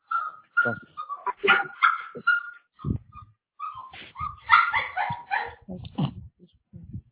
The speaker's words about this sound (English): Somebody choking that dog.